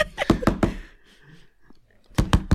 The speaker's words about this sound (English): There's a knock.